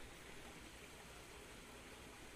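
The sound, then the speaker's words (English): A steady, unbroken rush of falling water from a waterfall, a soft hissing roar that stays even throughout, heard alone without any voices. “Yes, I love the sound of the waterfall.”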